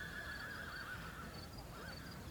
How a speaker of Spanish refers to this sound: Hasta un caballo escucho ahí.